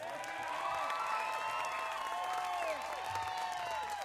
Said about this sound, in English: But is everybody feeling all right? Can we just give a nice big healthy cheer for the folks who put us up here in this beautiful property?